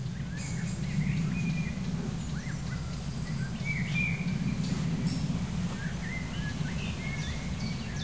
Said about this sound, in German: Und den Specht hören wir. Spechte sind aktiver auf jeden Fall als heute Morgen. Und viel zu hören. Ticks, ticks, ticks, ticks, ticks.